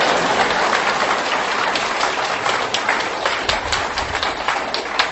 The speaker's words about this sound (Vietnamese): Dạ, thưa quý vị có đồng ý là Thầy được phong chức lên đó thì chúng ta rất là hoan hỷ, cho nên là xin quý vị một tràng pháo tay nữa.